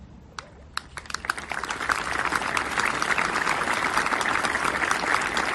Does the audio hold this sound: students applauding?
yes